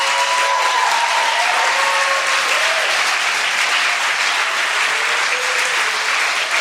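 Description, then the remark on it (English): Sustained audience applause in a church in North London, a dense, steady wash of many hands clapping at an even loudness throughout, with a few faint voices mixed in beneath it. “I wanted to give you a big, big warm round of applause”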